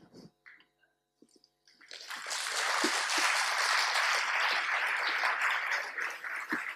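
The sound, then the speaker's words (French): An audience of students newly admitted to the École des Ponts breaks into applause for a speaker. After a couple of quiet seconds with a few scattered claps, sustained, dense clapping builds and holds at a steady, fairly loud level to the end. “Je vous félicite, non pas de m'applaudir, mais je vous félicite d'avoir intégré notre école.”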